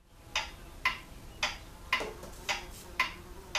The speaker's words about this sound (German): Veredelung der Zeit, die Uhr tickt.